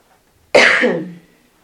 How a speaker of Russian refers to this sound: Я заново начала покашливать с сегодняшнего дня. Безобразие. Я с открытой форточкой уснула.